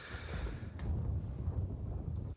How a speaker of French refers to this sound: Avez-vous entendu? Il y avait un coup de tonnerre.